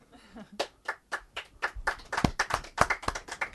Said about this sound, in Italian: Oi, facciamo un applauso.